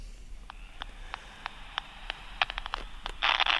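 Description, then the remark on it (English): Electronic static hisses steadily from a hand-sized 1980s bat detector that picks up no bat calls, broken by sharp clicks at a fairly even pace that speed up and swell into a louder crackling burst at the end. “We get some static, but no bat noises.”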